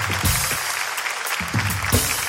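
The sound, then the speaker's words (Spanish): An audience claps steadily and loudly for a magician after his three-coin trick, a dense, crackling wash of applause that fills the whole moment, with a few low voiced bursts rising through it. “¡Un fuerte aplauso para nuestro amigo el mago!”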